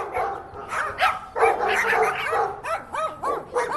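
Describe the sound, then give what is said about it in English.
A dog barks in a quick series of sharp yelps, then shifts into high, rising-and-falling whimpers near the end, with no voices. “The relationship between dogs and humans goes way back.”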